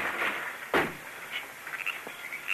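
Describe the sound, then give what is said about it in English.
The wooden door of a log cabin is kicked open with one sharp, forceful bang, followed by a faint creak and a few soft rattles as it settles. No voices are heard. “I'll kick open the door.”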